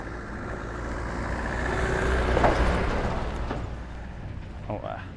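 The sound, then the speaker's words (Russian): A car rolls by on an unpaved dirt road, trailing a column of dust: a steady rumble with gritty crunching that swells to a peak midway, then slowly fades. A brief voice sounds near the end. “Сейчас проедет машина, и мы продолжим.”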